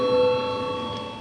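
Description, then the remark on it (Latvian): A parliamentary voting bell rings in one continuous, steady electronic tone, fairly loud and sustained from start to finish, with no talking over it, called for just before a vote on the ninth proposal. “Lūdzu zvanu. Balsosim par 9. priekšlikumu.”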